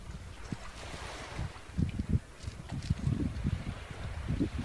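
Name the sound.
sea waves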